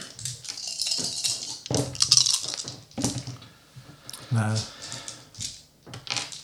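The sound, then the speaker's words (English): Dice clatter and tumble across a hard tabletop in a few quick bursts of small clicking rattles, with a brief spoken word partway through, as two players make an insight roll. “Make an insight roll, both of you, please.”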